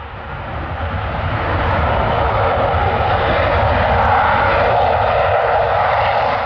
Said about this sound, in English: And when you're saying 200 decibels, for people who don't know how loud that is there a familiar comparison you might use? I think, you know, a jumbo jet taking off nearby.